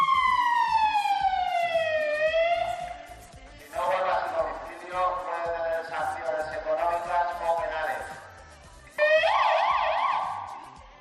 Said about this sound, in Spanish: No dice más que también al que estuviera durmiendo en ese momento, pues le hará poca gracia que le pongan la sirena por culpa del vecino.